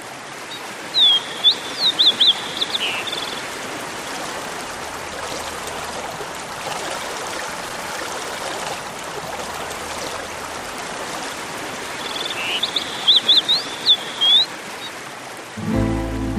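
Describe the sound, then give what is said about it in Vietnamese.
A forest stream in the rain rushes steadily and loudly downstream, its broad watery hiss filling the whole stretch, while a bird chirps briefly in short bursts near the start and again near the end. “bản nhạc mừng Thùy hôm nay chỉ có dòng suối ào ào tuôn nước về xuôi”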